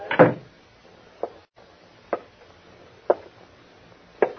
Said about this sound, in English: You close that door and come back here. Close it like that.